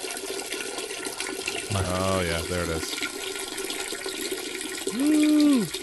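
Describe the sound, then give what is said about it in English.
A steady, hissing rush of Founder's Porter beer pours into an empty glass for several seconds, with brief bursts of a man's voice over the pouring near the middle and at the end. “My glass was empty. Founder's Porter is going right down, right through at me.”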